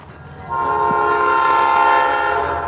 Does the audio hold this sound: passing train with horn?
yes